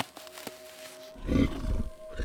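A few sharp cracks and clicks over a faint steady tone, then a deep, rough creature growl rumbles in loudly and holds for about a second, with no talking.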